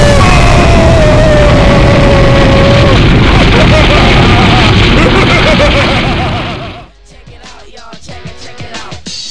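A loud, sustained explosion roar rumbles for several seconds, fades out abruptly, and gives way to quieter scattered clicks and knocks.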